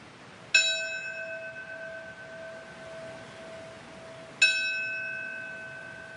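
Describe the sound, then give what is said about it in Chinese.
A bell is rung twice at the 9/11 Memorial in lower Manhattan, New York, during a memorial ceremony for the victims, a few seconds apart, each strike ringing out clearly and humming on in a long sustained decay over a faint, quiet background. “人们敲响钟声，并在纪念碑前献上鲜花为罹难者默哀，并表达着对和平的期许。”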